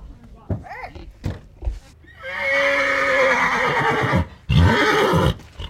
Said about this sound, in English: at the Red Lodge Rodeo Grounds on a recent Saturday morning while getting the horses ready for their races.